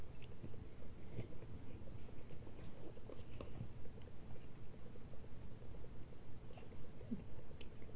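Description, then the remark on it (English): Steady crunching and chewing goes on throughout, a dense crackle of small bites and mouth noises with no talking, as someone eats a crunchy dinner. “We picked a good crunchy dinner, didn't we?”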